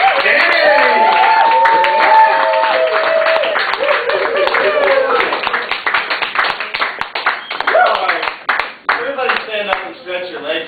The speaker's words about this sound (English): It is feature time. And so let us bring up a big applause